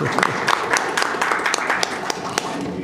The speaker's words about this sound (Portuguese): Já que ninguém recebeu os palmas, elas recebem as palmas.